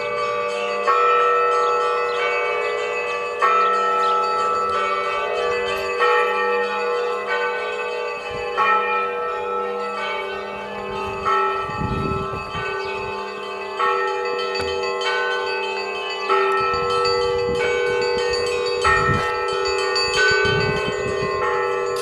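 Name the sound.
church bells ringing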